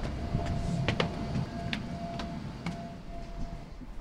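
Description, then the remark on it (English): Busy underground station corridor ambience in the Long Island Railroad corridor, which has a very low ceiling, beneath Madison Square Garden and 2 Penn: a constant low rumble with a faint steady hum, broken by several sharp, echoing clicks and knocks at irregular intervals, with no one talking. “So basically, we are in the Long Island Railroad corridor, which is a very low ceiling.”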